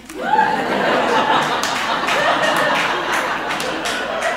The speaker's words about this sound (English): Thank you for clapping.